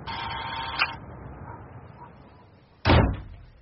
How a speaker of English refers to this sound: Just push the door.